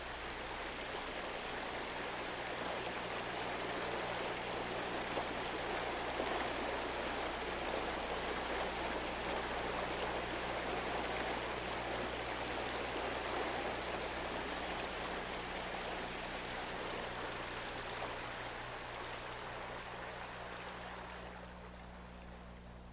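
A creek rushes steadily over stones, a continuous babble of water with no voices, holding even throughout before easing slightly at the very end.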